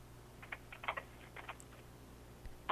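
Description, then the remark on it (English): Quick, irregular clicking of keys on a computer keyboard, a flurry of taps followed by a short pause and a few more strokes, fairly quiet over a low steady hum. “That sounds like typing on a keyboard.”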